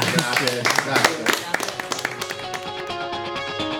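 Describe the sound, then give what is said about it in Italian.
A burst of clapping from a small crowd, dense and brisk at first, then thinning into scattered claps as sustained musical tones rise underneath. “Facciamo un applauso.”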